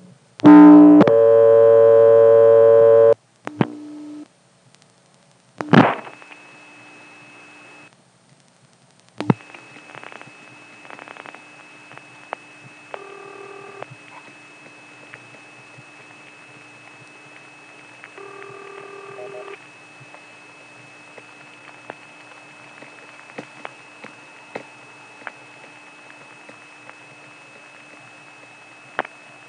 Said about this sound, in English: Now, before we leave Colonial Beach, let's just dial 100 one more time, listen to some of that great crosstalk, and let it time out.